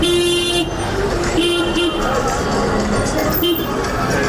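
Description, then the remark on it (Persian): Several taxi horns honk in short and longer blasts over a dense, busy traffic din, as crowds of taxi drivers wait for hours at the gate of the traffic police directorate to register their vehicles, with a crowd murmuring in the background and vehicles idling. “دیده می شود که انبوهی از رانندگان تاکسی بدون جبر و اکراه ساعت ها پشت دروازه مدیریت پلیس ترافیک انتظار می کشند تا وسایلشان را ثبت و رجیستر نمایند.”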